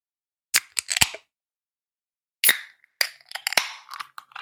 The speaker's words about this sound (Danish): Jeg fik simpelthen allerede lige det, jeg åbnede dåsen her, en fantastisk aroma, der bare sådan steg op til min næse.